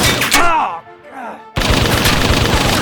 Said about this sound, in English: He withdrew the blaster and shifted position. He slid back, weathering the storm of bullets that chewed up the panels only a few inches below him.